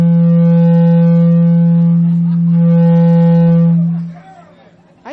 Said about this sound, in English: I think I just farted.